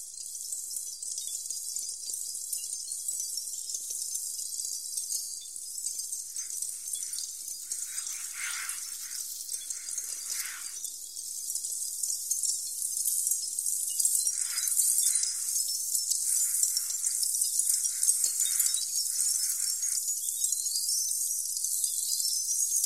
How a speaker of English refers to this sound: Like in Xenakis Concrete PH2, made from the sounds of the discharge of smoldering charcoal, tinkling all over the Brussels pavilion, like needles darting from everywhere, as Xenakis says. You can hear excerpts of that piece right now.